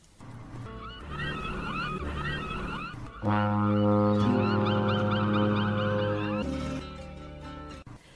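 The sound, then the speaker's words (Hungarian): A deep, loud ship's horn blows one long sustained blast lasting a few seconds, with chattering bird-like calls heard before it and continuing faintly over the tone. “Kürtje felbúg, hangja köddé porlik a dermedt fák alatt.”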